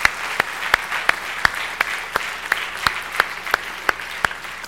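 An audience applauds, with sharp unison claps landing in a steady rhythm about three times a second over a dense wash of scattered clapping. No one speaks.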